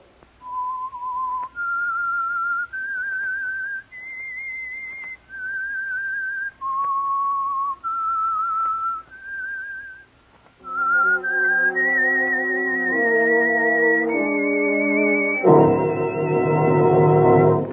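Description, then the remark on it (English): A lone, clear whistled melody of sustained, stepping notes, the signal for an oil-company-sponsored program, plays for about ten seconds, then richer instruments join and carry the tune to a louder, fuller finish. “whistle is your signal for the Signal Oil program, The Whistler.”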